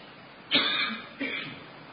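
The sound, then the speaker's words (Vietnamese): Two hoarse coughs about half a second apart, the first stronger and rougher, the second shorter, as someone clears their throat during a talk on Buddhist teaching, with no talking. “Tại cái cần cổ này lâu lâu nó phải ho, mà ho cho ọi ra một cái vậy đó.”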